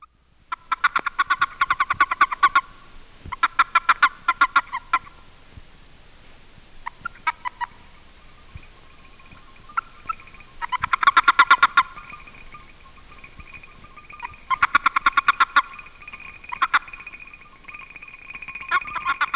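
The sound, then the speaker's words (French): Boreal toad (Bufo boreas) warning chirps, uttered when seized by another male: bursts of rapid, buzzy pulses repeated in short trains, fairly high-pitched and loud, with brief gaps between bursts and a few faint tonal peeps between them. “This is a warning chirp of the boreal toad, Bufo boreas, a species that has no mating call, but still utters a warning chirp if seized by another male.”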